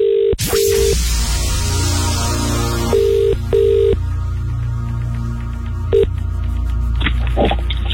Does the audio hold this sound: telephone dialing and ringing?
yes